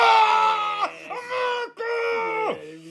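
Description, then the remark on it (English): A single voice imitates a crowd at a baseball game screaming halfway through the national anthem, letting out three loud, sustained yells, each ending in a sharp downward drop in pitch. “And, like, halfway through the anthem, like, niggas just start screaming and...”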